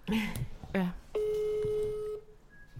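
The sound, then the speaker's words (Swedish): A brief burst of talking gives way to a single steady, mid-pitched ringback tone lasting about a second as an outgoing phone call rings, followed by a fainter, higher electronic tone. “ringer vi såklart”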